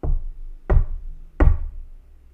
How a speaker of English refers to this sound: she heard the knocks. Three knocks on the door.